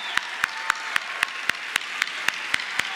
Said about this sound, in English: If you're an Auburn fan and your team is winning and you're going crazy, I want you to give that kind of clap to your pastors and this wonderful team that serve you. Would you let them know how much you love and appreciate them?